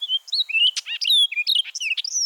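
An orchard oriole sings a rapid, varied jumble of bright whistles, chatters and slurred notes, loud, running continuously without pause and with no voices.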